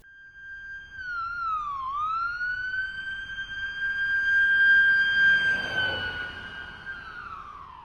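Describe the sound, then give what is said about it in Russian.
An ambulance siren holds a steady, piercing tone, dipping and rising once early on, then sustaining clearly over a low rumble of road noise, with no talking. The ambulance is taking an injured girl to hospital. “Скорая помощь отвезла Веру в больницу.”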